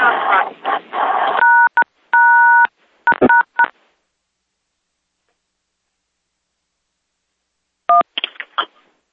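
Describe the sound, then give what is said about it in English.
Several quick bursts of touch-tone keypad dialing beeps on a call line, in a rough sequence, loud and clear, followed by silence and then a few more tones near the end, with brief voice-like noise at the start. “No, somebody else's phone is causing problems.”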